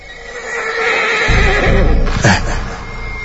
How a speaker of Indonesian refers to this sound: Aku mendengar suara teriakan seekor kuda. Iya. Dan dari kejauhan pun ku dengar langkah kaki kuda semakin mendekat.